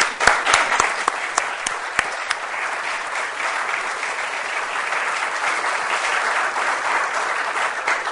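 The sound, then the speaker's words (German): An audience breaks into sustained applause for Upper Austrian state councillor Rudi Anschober, a dense wash of many hands clapping that starts with a few sharp individual claps and continues steadily at moderate loudness for several seconds. “Und dafür, denke ich mir, gibt es einmal einen extra Applaus.”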